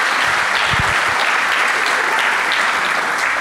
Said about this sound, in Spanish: Deberíamos aplaudir, ¿no? ¡Bum! Tremendo.